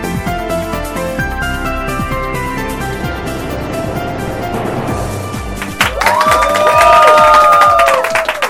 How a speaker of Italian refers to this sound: Hanno già finito di battere le mani. Ehi! Ma che pubblico abbiamo qua?